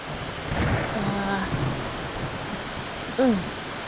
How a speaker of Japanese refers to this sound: うわぁ、すごい雨だね。はぁ、急に降ってきたからびっくりしたね。一緒に歩いてたら突然、ザバッと。これがバケツをひっくり返したような雨か。これって、ゲリラ豪雨だよね。すぐに止むかな。